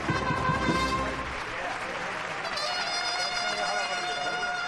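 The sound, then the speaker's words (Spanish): A street crowd on Calle Adriano breaks into loud, sustained applause during a Holy Week procession as the Virgen de la Caridad comes out, dense clapping filling the space for several seconds, with crowd voices and faint tones of the Marcha Real mixed in. “El sueño de los hermanos del Baratillo se cumple y la calle Adriano estalla en aplauso.”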